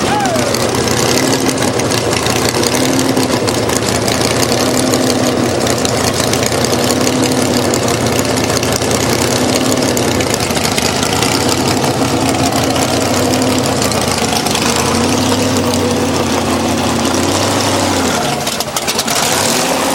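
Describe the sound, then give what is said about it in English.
An engine turns over and settles into a loud, steady idle, a rough mechanical rumble that holds for the whole stretch with a slight dip near the end. “Hope I get fired up again. Yeah, fire it up.”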